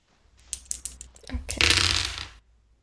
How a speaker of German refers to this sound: Ja gut, dann würfeln wir.